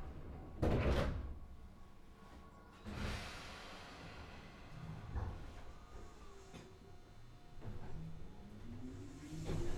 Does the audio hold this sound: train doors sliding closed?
yes